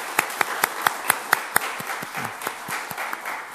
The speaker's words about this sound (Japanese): この二人含めてたくさんのティーンズたち、今日来ることができなかったティーンズたちも含めて皆さん祝福の拍手をしていただけたらと思います。